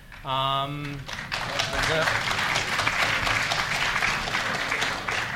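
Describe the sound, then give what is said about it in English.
A brief voiced cheer gives way to loud, sustained audience applause at a meeting, greeting the news that London has been accepted as a candidate city for the Olympic bid; dense overlapping clapping from a large crowd carries on steadily to the end. “You may well clap, but this has enormous ramifications for this meeting tonight,”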